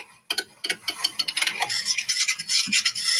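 A coffee maker sputters through a run of irregular crackling pops, then settles into a steady bright hiss with a gurgle partway through. No one speaks.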